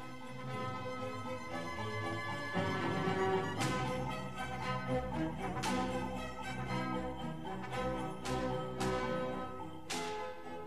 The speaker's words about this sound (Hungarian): Figyelj csak, mindjárt meghallod a kutyák ugatását, az ostor pattogását, és a havas mezőkön átsuhanó szánkó kis ezüst csengettyűjének csilingelését.